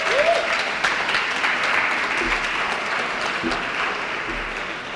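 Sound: audience applause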